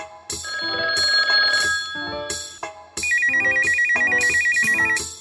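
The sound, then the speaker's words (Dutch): A loud electronic phone ringtone plays on its own, a bright melodic jingle of repeated tones and then a fast trilling warble, clear with no talking. “Hij ging net wel af.”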